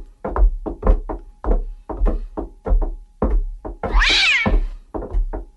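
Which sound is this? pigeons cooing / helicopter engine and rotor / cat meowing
cat meowing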